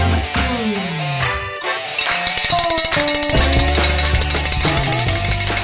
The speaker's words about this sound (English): Okay, we got a little cowbell this morning for the Almanac, Bob FM, for all of you cows out there listening to the Bob Morning Show.